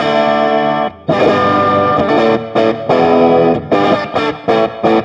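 A compressed Telecaster electric guitar, run through a Cali 76 compressor pedal with a touch of room reverb, plays loud chord strums in rhythmic bursts separated by brief gaps, with no one talking.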